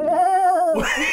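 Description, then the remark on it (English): A human voice imitates a screaming goat, holding a strained, wavering bleat for under a second before it breaks into a harsher, noisier cry. Loud, with no other sounds. “It's just one of those screaming goats.”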